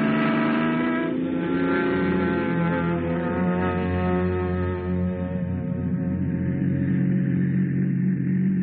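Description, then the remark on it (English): A car engine drones loudly and steadily as the vehicle pulls away, setting off on a vacation trip, its rumbling hum sustained for several seconds with a slight shift in pitch and no voices. “Vacation, here we come. Come on, car, let's go.”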